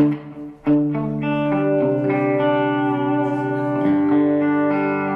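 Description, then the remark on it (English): A sustained electric guitar plays a few ringing chords, each change clearly struck, with a soft delay echo trailing faintly behind the notes. No voices, just the steady effected tone. “A lot quieter. More of a kind of an incidental echo.”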